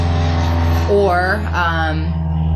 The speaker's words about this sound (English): Hold on, see. I just lost my train of thought, too. Yeah, it was that plane. Damn. Yeah, there's a lot of planes right here.